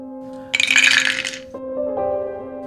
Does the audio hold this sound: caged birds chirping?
no